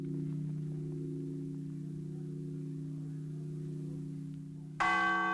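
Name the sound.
church bells ringing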